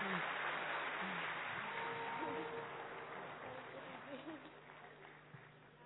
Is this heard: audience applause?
yes